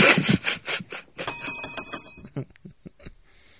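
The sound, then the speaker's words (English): A bicycle bell rings bright, a rapid trilling chime lasting about a second, preceded by a burst of rough, choppy noise and followed by a few faint clicks. “The inappropriate bell gets used way more on 2 Cents Radio”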